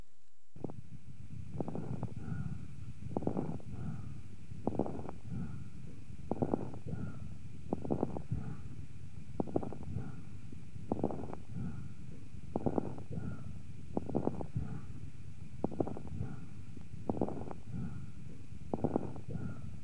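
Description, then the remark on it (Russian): Bronchial breathing through a stethoscope in a patient with right-sided lobar pneumonia in its first stage: a quick, regular series of harsh, hollow breath sounds, about one every second and a half, over a constant low muffled rumble, with no voices. “Прослушайте бронхиальное дыхание у больного с правосторонней крупозной пневмонией первой стадии заболевания.”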